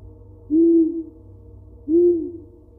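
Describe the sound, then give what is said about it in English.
An owl hoots twice in a large city, two low, steady, drawn-out tones about a second and a half apart, standing out clearly over a faint low hum. “An owl.”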